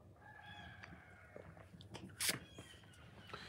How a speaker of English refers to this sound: For everybody else, we'll have a sip of coffee and we'll talk about how to support our American-made small businesses.